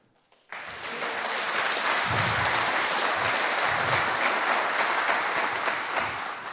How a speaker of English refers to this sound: So give him a huge applause.